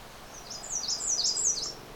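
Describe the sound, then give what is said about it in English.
An American redstart sings a quick series of high, thin, wavering notes, each rising and falling in a weech-weech sound, one of the many songs the species sings, over a soft outdoor background hiss. “The other bird you're hearing, weech-weech, a kind of a sound, is actually a redstart.”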